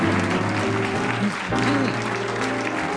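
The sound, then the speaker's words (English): A studio audience applauds steadily and loudly for the full three seconds, a dense wash of clapping from many hands with some tonal music or cheering voices running underneath. “Thank you so much. And clap jump.”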